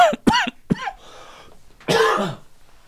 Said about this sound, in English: Sorry. I still have the cough. So I'm still recovering from the original cough. I think, I don't know, maybe COVID gave me another cough.